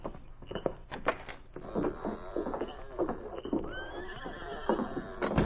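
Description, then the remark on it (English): A horse whinnies with a rising, shaky call while its hooves clop in an irregular rhythm, fairly loud, with no voices, as it stops at a shack so a woman can be lifted off it. “Help me lift her off her horse.”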